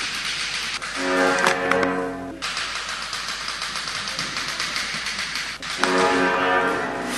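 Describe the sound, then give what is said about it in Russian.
During a stage play by Spanish actors at a Palace of Culture, steady clacking of typewriter keys runs throughout, broken by sustained, low bowed cello notes that swell in and fade at the start and again near the end. No one speaks. “Звучат клавиши печатной машинки и ноты виолончели.”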